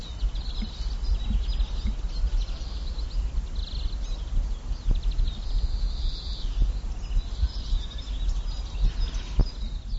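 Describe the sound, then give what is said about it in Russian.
Birds sing and chirp outdoors in a small square in the Vysočany quarter of the capital, in late winter with dry snow on the ground, their calls fairly faint and scattered over a steady low rumble of background noise, with a few soft knocks or taps in between. “Слышите, как птицы убеждают нас в том, что весна уже близко, и что осталось совсем недолго.”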